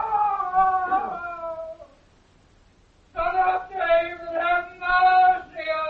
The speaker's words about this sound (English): What was that cry? The madman screamed. They burned out both his eyes for some old crime and he went mad. His cell is under us. Sometimes he screams like that.